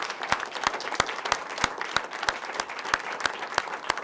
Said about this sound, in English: So give them a round, warm round of applause.